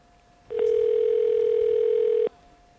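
A single steady electronic telephone tone sounds for nearly two seconds as a phone call is placed, loud with a buzzy edge, then cuts off abruptly, leaving a faint line hiss. No one speaks.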